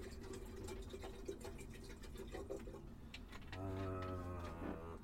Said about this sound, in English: I've just had a... hang on, filling up the kettle.